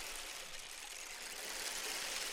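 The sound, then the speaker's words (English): A rain stick, turned slowly in the hands of conductor Leslie Dunner during a jazz ensemble practice, gives a steady, even hiss of tiny pattering beads, a soft shower-like rush that holds at a constant level without breaks or pauses. “Right now, he's slowly turning the rain stick around in his hands.”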